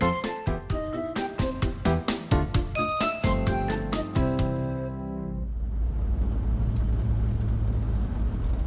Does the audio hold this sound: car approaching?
yes